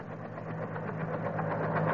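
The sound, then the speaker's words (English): A helicopter, about to land on a front lawn, drones steadily, a low throbbing hum with a rough, rumbling texture that grows slightly louder over two seconds, as if approaching. No voices. “My metals in the form of a helicopter. They're all ready to land on the front lawn right now.”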